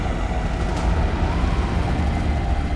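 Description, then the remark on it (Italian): A small twin-engine propeller plane, its two engines mounted on the wings, drones steadily in a storm with strong gusts and black clouds: a dense low-pitched engine roar with a faint hiss above it, holding an even loudness throughout with no voices. “Un piccolo aereo cerca strenuamente di non farsi trascinare via dalle raffiche. 2 impavidi motori attaccati alle ali, eliche incoscienti che fendono le nuvole nere.”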